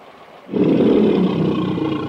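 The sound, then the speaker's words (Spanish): A tiger lets out a loud, menacing roar at the edge of an abyss in persistent rain and icy wind, starting abruptly after a brief quiet moment and holding steady, deep and rumbling, with no one speaking. “Tacima, el tigre asesino, ruge amenazador.”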